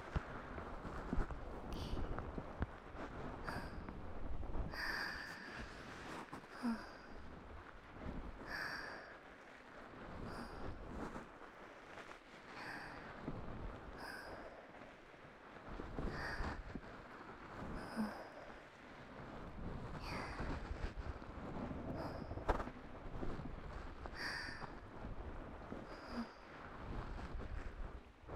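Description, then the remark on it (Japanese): Steady rainfall hisses continuously, punctuated every second or two by louder, sharper drops tapping. No voices are heard. “本当にいい雨の音。傘持ってきてよかったな。”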